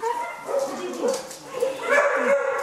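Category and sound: animal, dogs barking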